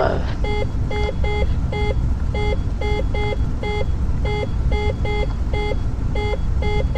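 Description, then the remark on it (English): A cockpit speed warning beeps in quick, evenly spaced pairs of tones, repeating steadily for several seconds over a loud, constant engine drone, as the aircraft slows toward an approach speed of 85 knots. “That's gonna beep like that till it gets to”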